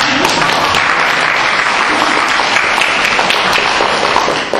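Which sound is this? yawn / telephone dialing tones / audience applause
audience applause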